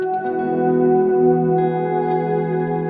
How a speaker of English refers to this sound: I keep saying it's not a reverb. And so I loved in his video when he was like, and it's also a reverb, because it's like, honestly, yeah, it is. I just don't want people to get overexcited, but it's a nice little reverb.